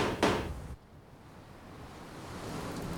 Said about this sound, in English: Then calmly she enters the bunker and closes the metal door.